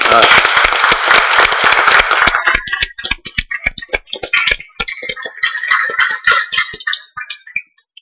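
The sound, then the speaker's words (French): An audience at a Courthézon municipal council meeting claps loudly and densely for about two seconds to thank a departing deputy, then the applause thins into scattered individual claps that taper off and stop near the end. “Bon, on applaudit.”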